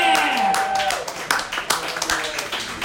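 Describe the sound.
A comedy show audience claps steadily and loudly for the next comic, a dense wash of hand claps mixed with cheering voices and a brief sharp whistle near the start.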